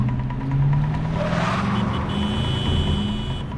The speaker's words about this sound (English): Claire's car swerves into another lane, then back in front of another car. Following her path, Noah's massive pickup dangerously switches lanes.